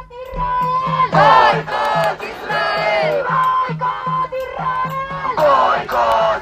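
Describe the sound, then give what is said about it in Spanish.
A large protest crowd outside the Palau Sant Jordi in Barcelona, before the Barça–Maccabi Tel Aviv Euroleague basketball game, chants "Boicot Israel" loudly in unison, many voices repeating the short rhythmic slogan in forceful bursts, with a steady low beat pulsing underneath. “Boicot Israel, se escuchaba fuera del Palau Sant Jordi, luego dentro, silencio absoluto.”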